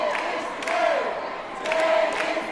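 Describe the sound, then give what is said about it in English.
A large crowd of teachers gathered at the Capitol cheers and shouts continuously as a pay raise bill passes unanimously, many hugging, with a steady roar of overlapping voices that swells twice, joined by a few high whistles. “It passed unanimously, to cheers from crowds of teachers gathered at the Capitol, many hugging those next to them.”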